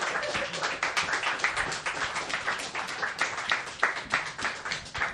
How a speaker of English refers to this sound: So everyone, please clap for Malcolm as he takes 30 seconds to walk to the stage.